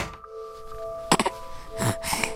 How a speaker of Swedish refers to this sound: Plötsligt lägger du märke till ett ljud inifrån garderoben. Du öppnar dörren.